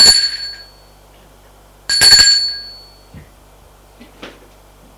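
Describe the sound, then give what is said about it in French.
An apartment doorbell at a door on the second floor of an old, run-down building rings twice: two bright metallic chimes with ringing tones that decay, separated by a short pause, followed by faint small clicks and rustles. “Là, elle sonne à une porte d'appartement.”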